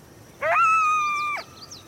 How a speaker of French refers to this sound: Ils jappent, ils gémissent, ils aboient, ils grognent et ils hurlent. D'ailleurs, son nom scientifique est Canis latrans, ce qui signifie « chien qui jappe » en latin.